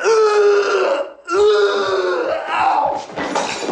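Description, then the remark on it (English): A male character in a movie retches and vomits loudly: two long, strained, guttural heaves with a low, groaning pitch, separated by a brief gasp, ending in a harsh, crackly splatter. “Sounds like he pukes up a glass lamp.”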